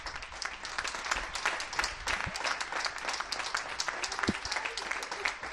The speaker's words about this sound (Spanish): No solo en Bilbao, sino en todos los pueblos de Vizcaya, ni la lluvia ni la tormenta ahogan los aplausos.